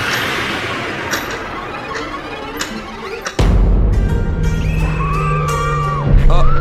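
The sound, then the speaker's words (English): A crackling background gives way to a sudden loud blast, followed by a heavy, sustained rumble with whistling, wavering tones overhead, like bombs falling and exploding in a bombing raid. “We've landed smack bang in the middle of a bombing raid.”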